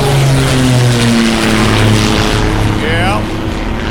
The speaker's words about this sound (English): Hey, look up in the sky! It's a bird! It's a plane! It's some kind of UFO! It's a plane. There it goes.